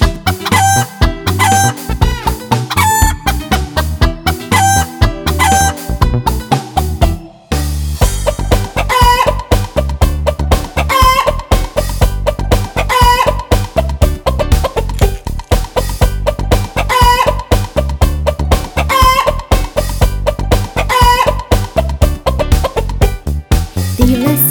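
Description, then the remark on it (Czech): A rooster crows, clucks and flaps its wings repeatedly over a busy, rhythmic musical backing that plays loudly and steadily throughout, with a brief pause in the music early on. “Došao i petao, krilima lepetao, pa digao viku, kuku, kukuriku.”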